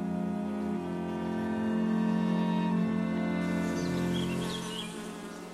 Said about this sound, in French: Mademoiselle de l'Espinasse, Mademoiselle de l'Espinasse, avez-vous vu quelquefois un essaim d'abeilles s'échapper de leur ruche?